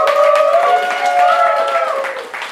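Audience applause, dense overlapping clapping that stays loud and steady for a couple of seconds, with sustained cheering or whooping voices riding over it before it eases slightly at the end.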